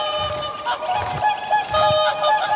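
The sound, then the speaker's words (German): A dense flock of birds honks continuously, overlapping calls forming a loud, busy chorus with no pauses, as if many geese are calling together, on the bird island nature reserve near Gingen, Baden-Württemberg, Germany. “Die Vogelinsel bei Gingen, Baden-Württemberg.”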